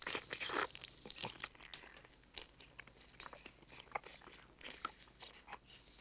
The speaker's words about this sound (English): Nurse Diesel digs into her fruit and offers the spoon up to Montague. As he leans forward, she retracts it and slurps the fruit into her mouth.